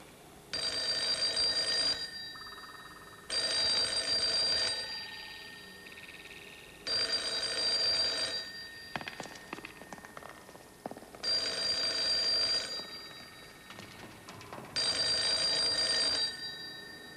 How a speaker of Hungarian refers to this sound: Igazgató elvtárs, telefon. Nem veszem fel!